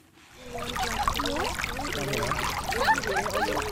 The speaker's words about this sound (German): Das Wasser des Kallang Rivers fließt ganz gemächlich, umgeben von grünen Wiesen, Palmen, Sträuchern, im Wasser große Steine als Fußtritte.